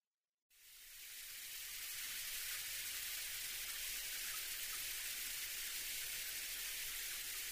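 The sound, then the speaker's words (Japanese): After a brief silence, a steady stream of shower water switches on and runs continuously, a dense, even hiss that stays constant in loudness with no voices. “じゃあ先にシャワー浴びてくるね。”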